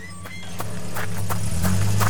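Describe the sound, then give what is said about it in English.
A hotwired car's engine rumbles low and grows steadily louder as the vehicle is driven off, with a few sharp clicks and knocks scattered over the steady drone. No one speaks. “Stop! Stop the car!”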